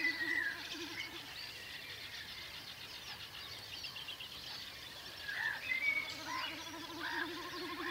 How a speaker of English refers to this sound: You can still hear that snipe. I mean, it's terrific to hear that.